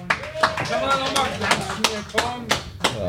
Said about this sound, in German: Danke, dass du hier bist. Einmal Applaus, Leute.